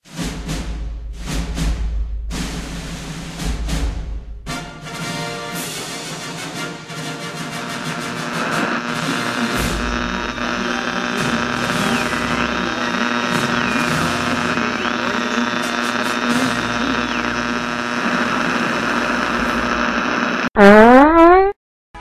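A short electronic jingle introducing movie news, of buzzy, sustained synth tones with a steady pulse, ending abruptly in a quick rising squeal. No one speaks over it.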